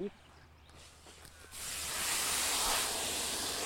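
A garden hose sprays water onto plants: after a brief quiet start, a steady, broad hissing rush swells in and keeps going, fairly loud and even, until the end.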